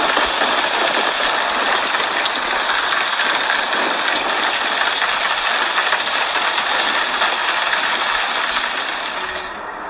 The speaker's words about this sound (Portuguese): Durante a gravação do tutorial, ocorreu uma forte pancada de chuva.